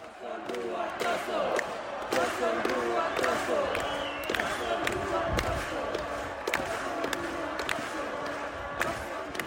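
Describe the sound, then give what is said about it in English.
A dense, roaring crowd of Fiji supporters at the HFC Stadium, Fiji, during the Fijian Drua versus Melbourne Rebels rugby match on Saturday, April 1st, cheering and chanting continuously with many overlapping voices, punctuated by sharp thuds and bursts of louder shouting throughout. “That, ladies and gentlemen, is what the overwhelming support of Fiji crowd sounds like during the Fijian Drua versus Melbourne Rebels rugby match that took place at the HFC Stadium on Saturday, April 1st.”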